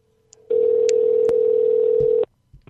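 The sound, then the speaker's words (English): A telephone line tone sounds once, a steady loud buzz lasting under two seconds, like a ringback signal, with a few faint clicks before and after and no voices, as someone places a phone call to a person selling a phone. “Chris is calling someone. They've got a phone for sale.”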